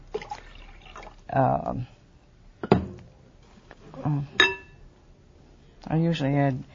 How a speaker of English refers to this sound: 8 ounces. Eight ounces. So you drain the liquid from the can.